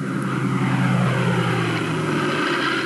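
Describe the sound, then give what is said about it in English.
A propeller airplane drones steadily overhead, its low engine hum loud and continuous, the pitch sinking slightly as it passes by. No voices are heard. “Look, Mommy, there's an airplane up in the sky.”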